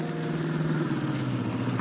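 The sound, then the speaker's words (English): The rough, rumbling engine of an old jalopy car approaching at night under a full moon drones steadily with a low, throaty hum and rattly texture, fairly loud and continuous, going into second gear and slowing down, with no voices over it. “Recognize it? Recognize the car?”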